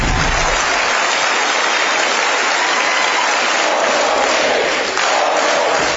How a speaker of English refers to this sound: These were the president's most vocal supporters, cheering him on, all dressed in white.